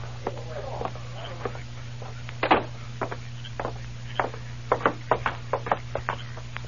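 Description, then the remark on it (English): Knocking on a wooden door: a series of sharp raps in uneven bursts, one louder than the rest midway, fairly soft overall, with a low steady hum underneath. “It is the door.”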